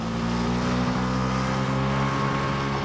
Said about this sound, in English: He gazes at her as she gets back onto her scooter. She drives off with a smile. His eyes follow her as she goes.